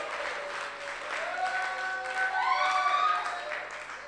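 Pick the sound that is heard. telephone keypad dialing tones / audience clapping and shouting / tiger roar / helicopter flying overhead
audience clapping and shouting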